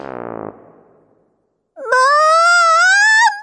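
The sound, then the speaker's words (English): A short buzzy burst fades to silence, then a child's high, sustained wail, the story character Peter complaining about Henry, rises slightly in pitch and holds loudly for about a second and a half before breaking off. “Wailed Peter. Henry's being mean to me!”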